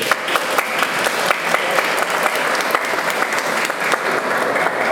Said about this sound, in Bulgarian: Истината е, че дълго работихме по тази изложба и тя нямаше да стане част от Музея за история на София без подкрепата на Столична община и лично на кмета госпожа Йорданка Фандъкова. Така че моля аплодисменти.